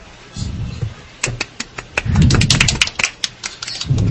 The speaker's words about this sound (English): I clapped.